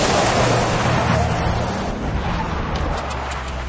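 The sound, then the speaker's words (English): A vehicle driven by Leo roars loudly and steadily, its engine droning low beneath a dense, gritty rush of rumbling and crunching noise as it veers off a remote desert track and tears over desert scrub, closing in on a van. “Leo veers off the track and goes over the desert scrub. He makes up ground and closes in on the van.”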